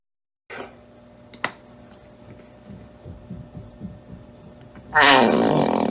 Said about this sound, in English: The bottle farted.